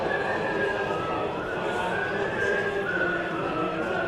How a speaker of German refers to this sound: Während der Brexit-Abstimmungen im englischen Unterhaus pfeifen und summen die schottischen Abgeordneten die Europa-Hymne. Werden dann aber ganz schnell zur Ordnung gerufen.